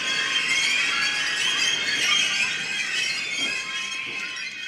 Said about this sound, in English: We understand that we could be over-romanticizing a squonking and squeaking escalator.